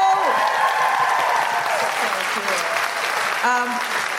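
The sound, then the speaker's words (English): An audience in Newcastle applauds two women authors steadily and loudly, dense clapping filling the whole clip with cheers and whoops rising over it, a couple of shouts standing out near the end. “First, a huge round of applause”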